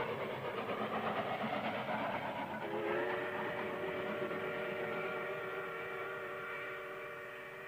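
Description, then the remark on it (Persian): A train rumbles past a village station and railway crossing with a steady mechanical roar, and a long steam whistle sounds partway through and holds while the noise slowly fades toward the end. No one speaks. “قطار تأثیر شدیدی روی مردم ده گذاشته و رویای اونا رو بعد از مدت ها مبدل به واقعیت کرده بود.”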